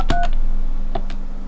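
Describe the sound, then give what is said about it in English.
Two short telephone keypad tones beep a moment apart while dialing the Coca-Cola Company, the first longer than the second, over a steady low electrical hum on the line. Nobody speaks. “For calling the Coca-Cola Company.”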